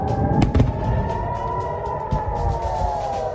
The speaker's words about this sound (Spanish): Así suena hoy Gaza. Desde las 6 de la mañana las explosiones han regresado a la franja.